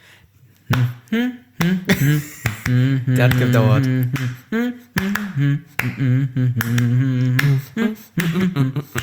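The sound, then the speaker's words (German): Sharp hand claps trying to clap a tango rhythm, in an uneven pattern of long and short gaps, fairly loud, accompanied throughout by a voice singing or speaking over them. “Es ist schwierig zu klatschen, weil du hast da lange und kurze Schritte ja vor allem so eher.”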